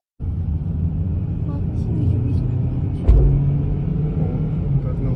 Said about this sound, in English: Those are quite big explosions.